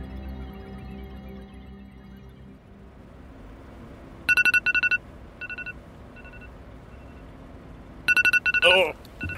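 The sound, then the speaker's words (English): A phone alarm, set the previous night, goes off with repeated bursts of bright electronic tones in short rhythmic pulses, fairly loud, over a low background hum; a voice briefly cuts in near the end. “Sorry, I set an alarm on my phone.”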